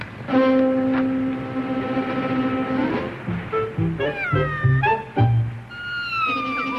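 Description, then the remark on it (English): A cat caught in a trap baited with liver meows repeatedly and loudly, with long drawn-out yowls followed by shorter, rising cries, sounding distressed and agitated, with no talking. “The cats fall the liver into the trap, and then we got them.”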